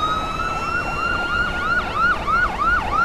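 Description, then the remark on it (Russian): Loud sirens of three fire engines wail continuously, several rising-and-falling tones overlapping in a rapid rhythm as the vehicles rush past, overtaking a car, with no voices. “Смотрите, нас пожарные обогнали! Да, сразу три машины, куда-то спешат!”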